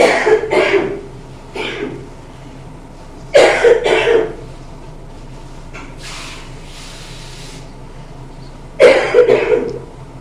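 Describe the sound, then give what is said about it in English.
Several harsh coughs burst out in uneven clusters, with a longer pause before a final fit of coughing near the end, over a quiet hum. “I'm going to have to go out and get a cough. I've got a cough.”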